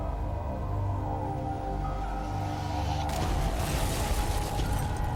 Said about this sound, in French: Une puissante explosion secoua le bureau du FBI.